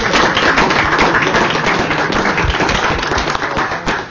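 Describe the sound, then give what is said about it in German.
An audience at an event marking 50 years of hospitality breaks into steady, loud applause for a guest, a dense crackle of many hands clapping that holds for several seconds and fades slightly at the end, with no voices heard. “Er hat sich einen Applaus jetzt schon verdient.”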